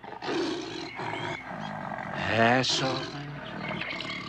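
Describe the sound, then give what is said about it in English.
Sultan, a big cat, roars and snarls after lurching out of a cave and pouncing on a man at the top of a slope, in a series of deep, rough growls, swelling into a loud, wavering roar midway before settling back into lower rumbling snarls. “Frost holds his hands up to the cat, while Mackenzie lies sprawled on his back.”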